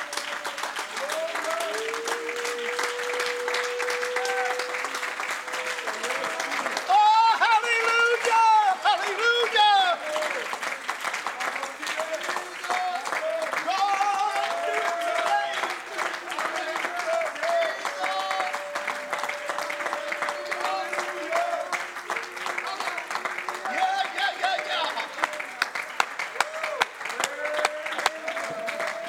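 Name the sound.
audience hand clapping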